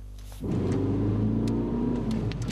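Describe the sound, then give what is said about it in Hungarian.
A car fitted with winter tyres comes in abruptly after a brief quiet moment, braking on a driving-technique track at the Hungaroring that simulates a slippery, frozen road. Its engine drones loud with a steady, whirring rumble as it slows toward a stop. “Ennyi idő alatt áll meg egy téli gumis kocsi a Hungaroringen lévő vezetéstechnikai pályán, ami a síkos, lefagyott utat szimulálja.”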